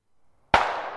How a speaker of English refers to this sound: Now the sound of gunshots made them jump.